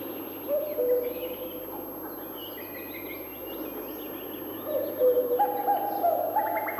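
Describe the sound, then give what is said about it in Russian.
A male common cuckoo gives its two-note cuckoo call, once early and again later, over a steady chorus of small birds chirping and a low insect buzz. “Все время слышны кукушки. Иногда их можно услышать даже ночью. Это кукуют самцы.”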